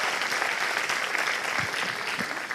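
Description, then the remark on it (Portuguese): An audience at a Sunday church service applauds the Lord in a steady, dense wash of clapping that holds at an even, fairly loud level for the whole stretch, with no voices standing out. “Aplauda o Senhor, que Deus abençoe.”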